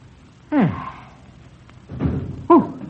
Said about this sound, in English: Oh, that was the front door.